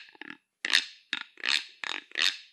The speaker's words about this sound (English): so this one here is a rasp. It's a very common instrument. Many Pueblos use this. It's just a stick with notches cut into it. And just using something hard to go across the top. This, in this case, we use a deer bone. And this is what it sounds like.